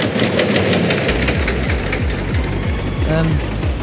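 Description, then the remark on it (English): Fairground ride machinery among amusements, arcades, waltzers, pirate ships, spinning chairs and Botton's Ferris wheel rattles loudly and continuously, with a fast, regular clanking rhythm over a dense mechanical roar, a short tonal whine rising briefly near the end and faint voices mixed in. “Waltzers whirl, pirate ships swing, rock and roller, spinning chairs, that annoying mechanical sound.”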